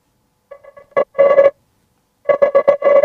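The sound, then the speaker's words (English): A telephone rings with an incoming call, two loud bursts of trilling electronic ring separated by a short pause, clear with no one talking. “Oh, important caller.”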